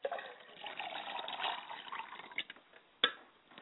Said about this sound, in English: And I pour water to the ground and say, Ashe. I pour a glass of water for my father's side of the spirit, and I say, Ashe, libation.